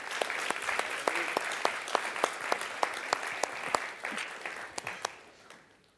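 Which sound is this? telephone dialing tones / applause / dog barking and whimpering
applause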